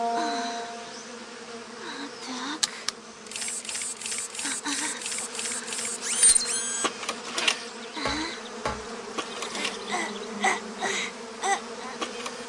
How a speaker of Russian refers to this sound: Надо же, пчелы.